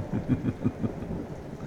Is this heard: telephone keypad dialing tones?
no